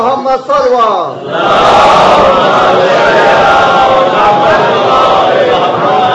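A lone voice calls out a slogan, and a large crowd answers with a loud, sustained roar of shouting that fills the remaining five seconds without letting up.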